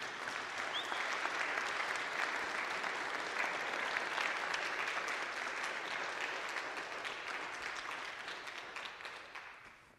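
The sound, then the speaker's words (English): Sustained applause from a sizable church audience at Cross of Christ after an evening event, a dense, steady patter of many hands clapping at once, holding strong for several seconds before gradually thinning and fading toward the end. “So now give a round of applause.”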